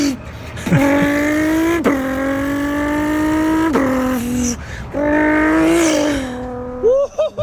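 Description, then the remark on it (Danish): A man's voice imitates sports car engines with his mouth (a Lamborghini Huracan with launch control, then an LFA and a GTR), revving in several loud bursts that climb in pitch, drop sharply like gear shifts, then build again before trailing off. “altså hvis jeg havde spillet dig disse her lyde, uden at fyren ved siden af giver anvisninger på, hvilken bil og modelbetegnelse, der er tale om, ville du så kunne høre, hvilke biler han forsøger at gengive her?”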